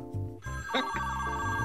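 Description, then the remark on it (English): A telephone bell rings in a short, bright burst, its tones sustained and fairly loud, ringing on its own without any talking; a sound effect signalling that the phone lines are open. “I see you holding your nose as you're talking, but that is our sound effect that the phone lines are open”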